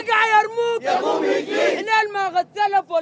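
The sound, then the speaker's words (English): A crowd of street protesters blocking streets with cobblestones and burning tires shouts loudly, with sustained raised voices swelling into a dense roar of many people before breaking into several shorter, rhythmic chant-like shouts. “Almost at exactly 1 o'clock, protesters emerged from buildings and cars and started blocking streets with cobblestones and burning tires.”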